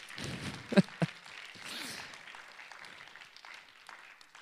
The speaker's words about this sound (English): Feel free to clap right there. Feel free to clap right there.